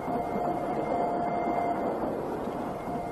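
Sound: moving train interior rumble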